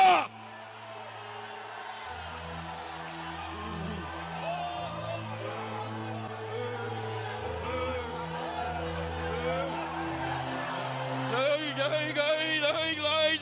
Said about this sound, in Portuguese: Quem vai continuar firme avante, quem vai continuar, deixa eu ouvir o grito de glória.